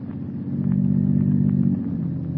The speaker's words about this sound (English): The unearthly silence is broken only by the purr of a motor car. Listen.